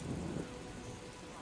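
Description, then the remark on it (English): Steady hiss of video game rain pouring continuously, with a low rumble of thunder swelling in the first half-second before fading into the rainfall. No voices, moderately quiet overall. “Yeah, the rain effect does feel like Metal Gear Solid too.”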